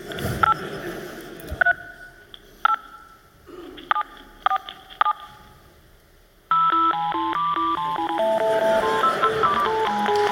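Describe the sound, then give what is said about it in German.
Keypad tones from a cordless Motorola S1200 telephone, tapped out to play the Tetris melody over a normal phone line: a handful of separate short beeps, then a fast continuous run of dialing tones that steps up and down like a little melody, clear with no talking. “ihr habt das Telefon von ST gerade schon gesehen. Das ist ein wunderhübsches Motorola S1200 irgendwas.”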